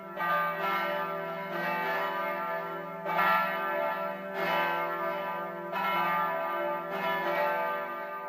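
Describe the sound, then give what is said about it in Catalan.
Church tower bells ring out in a steady sequence of strong, resonant strokes, each one sustaining and overlapping the next, with no voices present. “El campanar comença amb les seves batallades de la mà, com sempre,”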